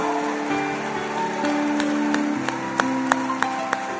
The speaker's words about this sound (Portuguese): Dê um aplauso a Jesus.